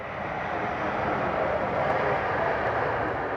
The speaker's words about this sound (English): As children run around on the miniature tarmac at the Raleigh-Durham International Airport observation area, parents watch the sky. Planes take off and land every few minutes.